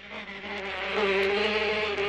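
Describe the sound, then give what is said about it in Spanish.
A fruit fly buzzes steadily, a continuous droning hum that swells slightly in loudness midway and holds through the whole stretch, with no voices. “No fue un perro, sino la mosca de la fruta, el primer animal en ser enviado al espacio exterior.”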